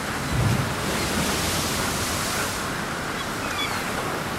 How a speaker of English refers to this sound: The breakers crash. The breakers crash. In the wild, wet Wellington wind.